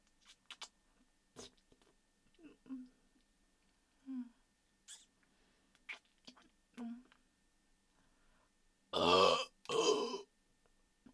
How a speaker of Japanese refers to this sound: モロにこのくっさーいゲップを浴びた気分はどう？